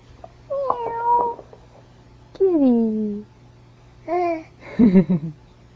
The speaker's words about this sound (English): Meow. Okay. Yeah, kitty. Okay. Yeah. Nice kitty. Yeah. Oh. What a nice kitty.